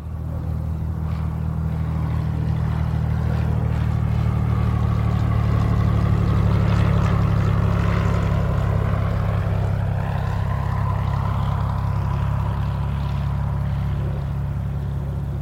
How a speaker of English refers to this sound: The candidate's small chartered airplane taxis into a tiny terminal building in Spencer, Iowa.